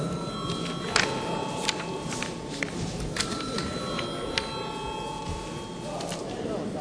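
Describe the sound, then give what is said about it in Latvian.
An electronic voting bell in a parliament rings before a vote on a bill amending a pollution law, a steady, shrill, multi-toned buzz for the whole stretch, with a low murmur of voices and occasional clicks and shuffles underneath. “Lūdzu zvanu.”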